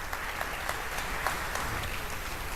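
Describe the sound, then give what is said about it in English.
An audience applauds steadily as a speaker is introduced for a talk on deep learning with TensorFlow, a dense wash of many hands clapping at an even level throughout, with scattered sharper claps standing out, and no one speaking. “So please, applause”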